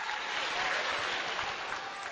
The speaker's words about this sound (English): That's a leftover clap. Don't even bring the clap.